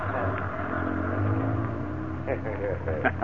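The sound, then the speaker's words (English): Heavy moving-van engines rumble low and steady as the vans begin pulling away, with men's voices talking over the drone near the end. “Tommy's got his van turned around. I guess we can start rolling.”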